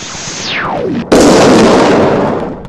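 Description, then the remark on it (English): A sci-fi starship weapon shot as the Imperial flagship Kalar opens fire on the Imperial battlecruiser Catharus near the Thalian zone: a high whistling tone sweeps steeply downward, then cuts into a sudden loud, roaring blast that rumbles on and slowly fades. No voices are heard. “Near the outer limits of the Thalian zone, the Imperial flagship Kalar opens fire on another Imperial battlecruiser, the Catharus.”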